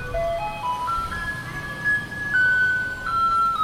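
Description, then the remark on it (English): A garbage truck in Taipei, Taiwan, plays A Maiden's Prayer by Polish composer Tekla Baranowska as a tinny electronic melody through a loudspeaker, single notes climbing stepwise and holding, with a low engine and street rumble underneath; no one speaks. “In Taipei, the capital of Taiwan, the trucks also play this song.”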